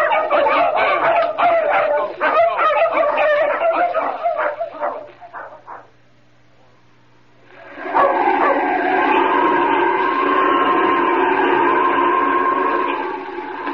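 Several dogs bark and yip excitedly in quick, overlapping bursts for several seconds, loud. After a brief lull, a steady, loud droning tone takes over.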